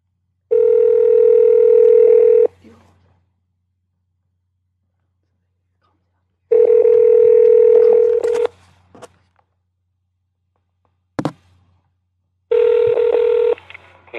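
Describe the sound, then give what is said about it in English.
A telephone line tone, while calling a Chinese restaurant, sounds in three steady, buzzy bursts of about two seconds each, separated by long silences, with a brief sharp click in the last gap. “Alright, we're calling the Chinese restaurant.”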